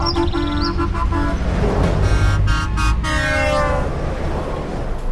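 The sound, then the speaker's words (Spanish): A caravan of trucks with banners reading "Illapel ayuda a sus crianceros", led by Illapel mayor Denis Cortés and taking cattle to pasture, rumbles past while deep air horns blare in long, overlapping blasts, the honking fading after a few seconds as heavy engine noise continues. “Hemos decidido ir a buscar el pastoreo donde está, dijo el alcalde Denis Cortés esa tarde, minutos antes de dar la partida a la caravana que él mismo encabezó, seguido por camiones con pancartas que decían Illapel ayuda a sus crianceros.”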